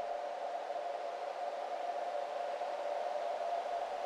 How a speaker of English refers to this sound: That whistling. Strange furry sound.